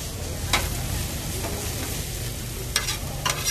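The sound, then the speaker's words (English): Philly cheesesteak meat, sliced thin, sizzles steadily on a griddle while a metal spatula chops and scrapes it in a few sharp, irregular clacks over the constant frying hiss. No one speaks. “This meat is all chopped up.”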